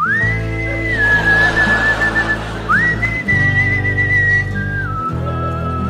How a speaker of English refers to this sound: And then he began gleefully to whistle his favorite song.